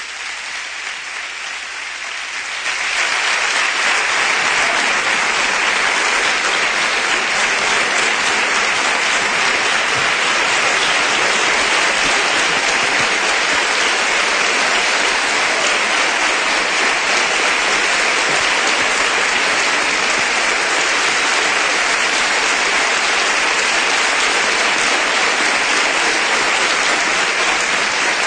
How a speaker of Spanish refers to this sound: Muchas gracias por la ovación.